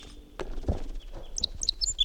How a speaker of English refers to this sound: Wild bird flight song. It's going toward the net.